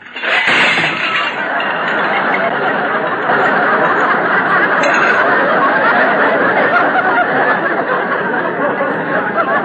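A loud, sustained crash of stacks of clean dishes dropped by Rochester falling off a drain board and shattering, a dense clatter of breaking crockery that keeps going for nearly ten seconds without letting up.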